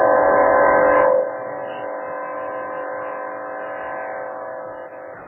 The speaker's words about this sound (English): There's the air horn. As the Iowa Bulldogs head out onto the field.